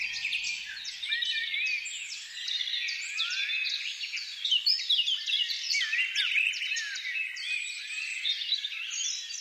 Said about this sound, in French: Les oiseaux.